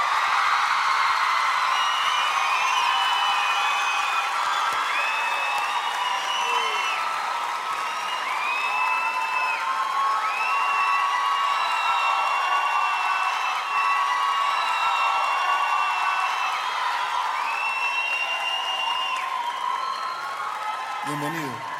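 A crowd applauds steadily for about twenty seconds, a dense wash of clapping topped by cheers, whoops and shouts that rise and fall throughout without letting up.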